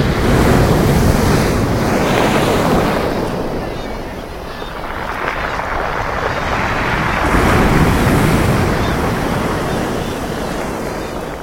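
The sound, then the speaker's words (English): Heavy ocean waves crash and roar in a dense, continuous wash of surf, swelling and easing in slow surges, with gusty wind buffeting. “Until Sunday, I smashed my head through the barrier between sea and sky, and there was the 2-ton wave timpani.”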